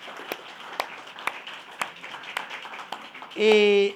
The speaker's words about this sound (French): Et vous êtes plusieurs aujourd'hui, puis on vous applaudit maintenant. Bienvenue à toutes les mamans.